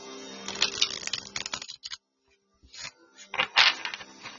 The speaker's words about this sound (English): We'll shuffle these cards.